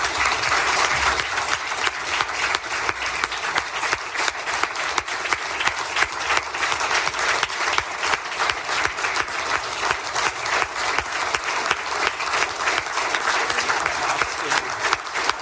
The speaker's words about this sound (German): Wenn Sie diesem Antrag zustimmen, dann bitte ich Sie, sich mit einem deutlichen Applaus von Ihren Plätzen zu erheben.